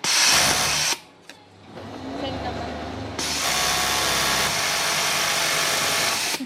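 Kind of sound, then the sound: machine, sewing machine running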